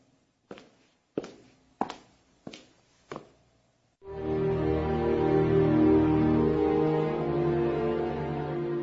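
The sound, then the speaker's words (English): Five firm footsteps land at an even, unhurried pace on a road, each with a short ringing decay, before a sustained swell of music takes over. “After a little while, the poor man heard footsteps again.”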